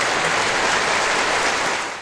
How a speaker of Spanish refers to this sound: El público, en cuanto oye campeones, se pone a aplaudir. Se pone, sí, se pone.